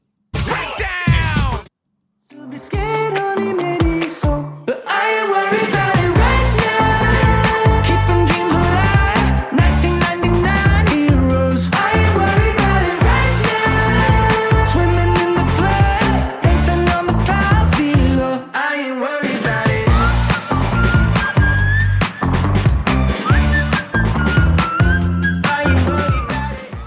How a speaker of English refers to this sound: What a fun song. I know. I was so not mad to be bugging out to this. You and I are both just chair dancing.